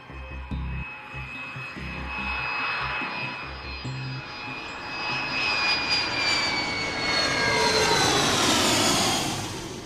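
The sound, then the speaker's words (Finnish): Airliner engines roar steadily as the plane climbs above the clouds, a broad rushing drone with high whining tones drifting through it, growing gradually louder and fuller toward the end, with no one speaking. “Kone on noussut yläilmoihin pilvien päälle.”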